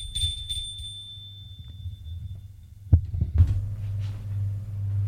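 A low, muffled heartbeat throbs steadily throughout, with a couple of heavier thumps midway. A thin, high ringing tone fades out over the first seconds. No one speaks.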